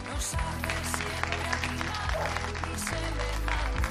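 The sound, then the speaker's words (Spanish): Dense, continuous applause from many people clapping at once from balconies in Bilbao on a fine-weather day, steady and fairly loud throughout, with a low sustained tone humming underneath. “Bueno, pues aquí, aunque se nota que es día de buen tiempo, la gente, como decíamos ayer, no tiene franjas horarias y sale a pasear, todavía se mantienen los aplausos.”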